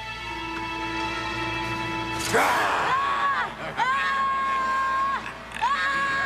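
boy screaming

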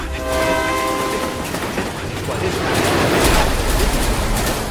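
train passing with horn

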